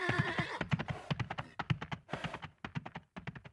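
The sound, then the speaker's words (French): A horse whinnies briefly, then steady hooves clop in a quick, even rhythm, the hoofbeats gradually growing a little fainter as the animal moves off, carrying a limping knight away in a cloud of dust. “Il marche en boitant jusqu'à son cheval et disparaît, avec Gladys, dans un nuage de poussière.”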